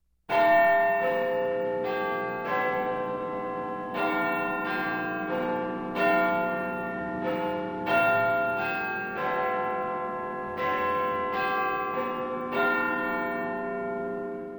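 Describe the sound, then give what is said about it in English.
Big Ben, the bell in the clock tower of the Houses of Parliament in London, chimes loudly at 12 o'clock, a steady run of ringing strikes in a changing pitch pattern, each tone overlapping the lingering hum of the last, with no voices. “Big Ben is the name of the bell in the clock tower of the Houses of Parliament. Listen, it's 12 o'clock.”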